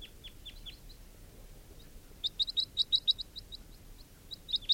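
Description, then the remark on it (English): Sharp, high crossbill calls, a few downslurred notes at first, then a quick rapid series of bright chip-like notes in bursts over a low steady background rumble, no voices. “And there are still crossbills around.”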